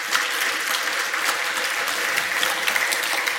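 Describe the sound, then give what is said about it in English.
Sustained applause from a crowd at NixCon, a dense, steady wash of many hands clapping at even loudness throughout, with no voices standing out, for the conference organizers and everyone who took part. “So I do want to have one last round of applause for all the organizers and everyone that took part.”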